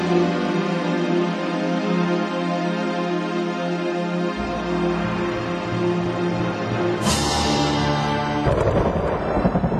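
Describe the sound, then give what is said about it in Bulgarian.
Deep thunder rumbles in partway through over a steady sustained tone, then a sharper crack breaks out and rolls on loudly, like a storm drawing close. “Иде буря.”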